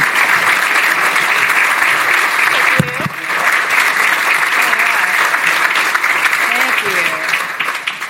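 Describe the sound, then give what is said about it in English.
Sustained applause from a large crowd for the transportation secretary, a dense steady wash of clapping that stays loud for the whole stretch, with a few faint voices calling out briefly beneath it. “So either way, let's all give a round of applause for not only the best transportation secretary, but the coolest.”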